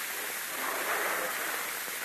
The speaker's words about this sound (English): Sound like water. He's putting more water in the barrel. He's going to make it just as heavy as possible in case we do try to lift it.